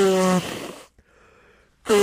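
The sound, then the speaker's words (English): A loud, honking nose blow opens with a buzzy tonal snort and trails into a breathy rush, then after a quiet pause a second honking blast begins. “I got to blow my nose.”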